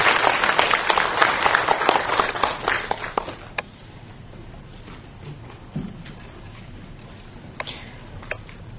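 A room full of people at a lecture in Kaohsiung breaks into dense applause to welcome a university president as speaker, holding strong for about three seconds, then thinning into scattered claps and faint shuffling as it fades out.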